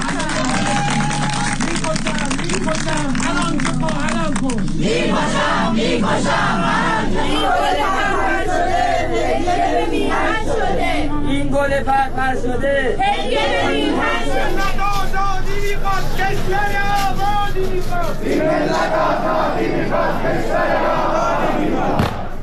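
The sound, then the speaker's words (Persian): A large crowd at a Friday memorial ceremony chants anti-government slogans loudly in unison, voices rising in rhythmic, shouted slogans over a dense wash of crowd noise that continues without a break. “هر سه مراسم با سخنان خانواده‌ها، شعارهای مردم و همچنین برنامه‌های نمادین به صحنه تداوم اعتراض‌های ضد حکومتی تبدیل شد.”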